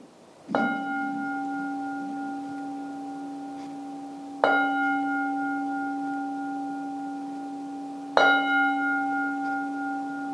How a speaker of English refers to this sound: We can hear the bell now. They've adjusted the settings for the sundown.